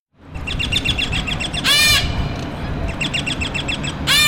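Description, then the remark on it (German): A dense chorus of various parakeet species from South America and Southeast Asia chattering and calling in a large open-air aviary in Charlottenburg, Berlin, next to the Kurfürstendamm, with rapid repeated chirps and two louder, harsher squawking bursts over a constant busy background of bird noise. “Sie hören verschiedene Sittigarten aus Südamerika und Südostasien.”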